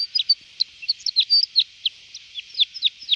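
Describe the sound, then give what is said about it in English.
A crossbill calls in a rapid string of sharp, high chirps with quick downward inflections, closely spaced and fairly clear, with no voices or other sounds around it. “But if it was a crossbill as the first bird on Valentine's Day, the man she would marry would be very argumentative.”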